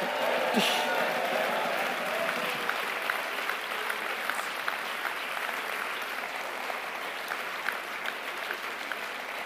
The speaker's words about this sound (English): Come on, give them a big northern cheer, southern cheer.